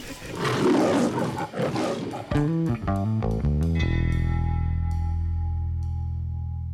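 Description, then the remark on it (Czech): A loud, rough lion roar at feeding time fills the first couple of seconds, then gives way to a quick run of stepped musical notes that settle into a long, fading chord. No one speaks. “Tak, my jsme zhruba v půlce dnešního programu, ale řekla bych, že za sebou máme tu asi nejzábavnější část, a to je krmení lvů.”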